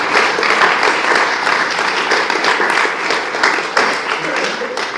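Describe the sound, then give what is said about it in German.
A crowd applauds steadily for two participants after one of them wins a game, a dense, loud wash of many hands clapping that holds without pause for several seconds. “Einen Applaus für die beiden.”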